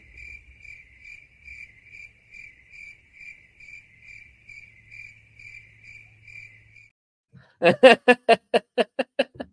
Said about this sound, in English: Cue the crickets.